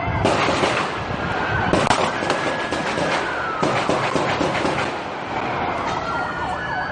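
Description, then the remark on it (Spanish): Loud, sharp bursts of gunfire crackle repeatedly in clusters at a protest march against police violence in downtown Dallas around 9 p.m., echoing over a continuous wailing siren and a dense, noisy outdoor background. “La marcha transcurría pacíficamente por el centro hasta que sobre las 9 de la noche se empezaron a escuchar multitud de ráfagas de disparos.”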